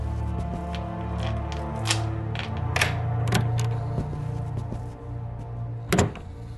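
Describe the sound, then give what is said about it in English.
A woman rummages briefly through objects in a drawer by the door to her apartment: scattered clicks and light knocks over a low steady hum, ending in one louder clunk. “Rummaging briefly in a drawer by the door to her apartment, she finds what she is looking for.”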